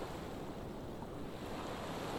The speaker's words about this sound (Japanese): ほら、耳を澄ませるとザザンザザンと波の音が聞こえてくるよ。